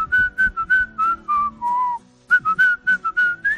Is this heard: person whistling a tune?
yes